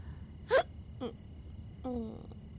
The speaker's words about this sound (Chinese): 咦？刚才就在打嗝，是受凉了吗？